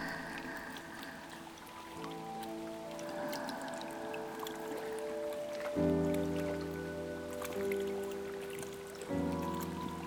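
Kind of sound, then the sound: nature, babbling river stream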